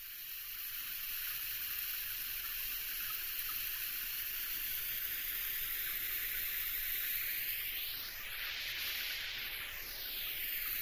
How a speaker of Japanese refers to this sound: それじゃあシャワーで流していきますね。